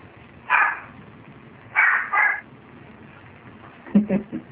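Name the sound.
small Chihuahua dog barking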